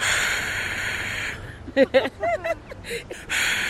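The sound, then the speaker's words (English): A voice imitates the crowd at the new Yankee Stadium in New York, people screaming all at once as heard from a house window: a steady, loud breathy hiss, breaks into a few short voiced sounds, then resumes the hissing roar at the end. “Yes, and it's the crowd. As you hear the people screaming, like, all at once.”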